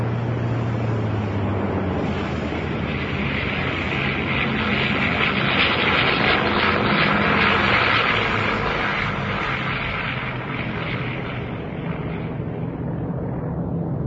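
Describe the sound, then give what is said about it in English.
A loud, steady engine roar fills the whole recording, a broad rumbling drone with a hissing upper band, like an airplane powering through takeoff, with no voices. “After the initial takeoff, I move forward into the nose of the plane and put my parachute on my chair.”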